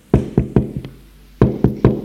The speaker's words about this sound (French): Trois heures plus tard, l'on frappe à la porte de son bureau.